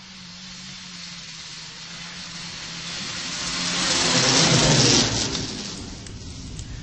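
A Yamaha 440 SS snowmobile engine drones steadily over a hiss of churned fresh snow, swelling louder around the middle, then easing back slightly. No one speaks.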